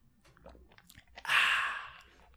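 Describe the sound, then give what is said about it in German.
A sip of water: a few small wet clicks, then a loud hissing slurp lasting under a second that fades out, with no talking. “Ich muss mal eben ganz kurz einen Schluck trinken.”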